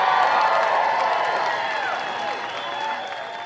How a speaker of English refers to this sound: And for Ted Cruz, this is like an extremely awkward thing because he's not trying to go to war necessarily with Mitch McConnell, but there's Carrie Lake getting the crowd to cheer for the idea of Majority Leader Ted Cruz.